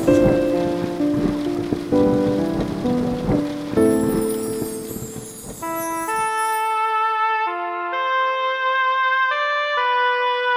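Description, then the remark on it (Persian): Steady rain patters beneath gentle melodic music for the first several seconds, then the rain drops away, leaving clear, sustained chime-like tones ringing alone. No one speaks. “مرا خیس از همین پاکیزگی کن، که با این بارش و آهنگ باران من و این روح سرکش همچو یک اسب برقصم”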